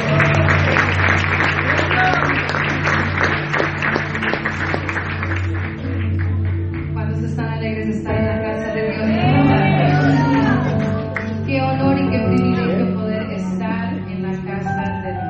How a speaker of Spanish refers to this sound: De un aplauso, Señor, fuerte en esta tarde.